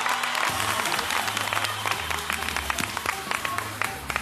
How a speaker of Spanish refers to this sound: ¡Un aplauso! Para todo el equipo que hace que esto sea posible.